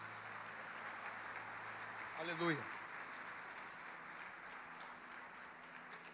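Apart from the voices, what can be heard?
audience applauding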